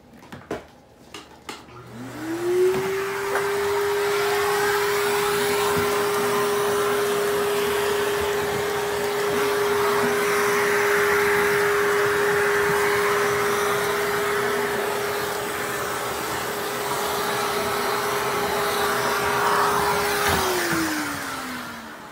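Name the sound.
vacuum cleaner running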